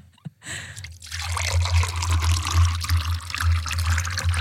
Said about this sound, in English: Are you ready to pour, to commence the pour